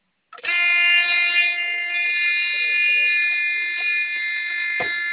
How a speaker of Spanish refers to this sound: Okay, ahí está con el botón de pánico.